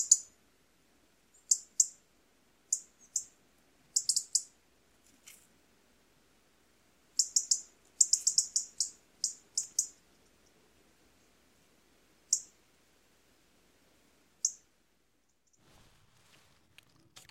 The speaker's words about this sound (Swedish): Och för repetitionens skull så avslutar vi väl med en orolig rödhake som knattrar med typisk oregelbundenhet på sina miniatyrkastanjetter.